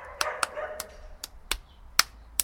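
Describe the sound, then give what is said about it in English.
Someone mimics a dog barking as a rhythm for another person to clap and drum, with a quick, rhythmic string of about seven short, sharp woofs, fairly quiet, each bark clipped and evenly spaced. “Woof, woof, woof, woof, woof, woof.”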